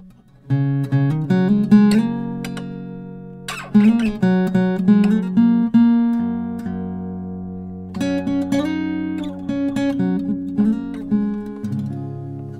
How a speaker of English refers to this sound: And I need to tune the guitar. Take your time. I mean, if I was quicker at tuning, you're killing me knocking that guitar in. You're killing me. I'm not knocking it. You're hearing it too loudly.